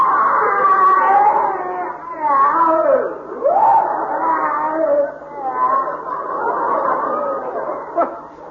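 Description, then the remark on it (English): A long, loud wailing scream of pain from the next room, where Dr. Eidelberger is making experiments, its pitch sliding up and down in anguished sweeps for several seconds, with no other voices. “Funny, it sounded exactly like someone in pain.”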